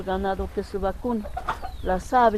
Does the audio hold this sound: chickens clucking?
yes